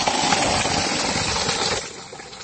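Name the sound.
borewell pump motor running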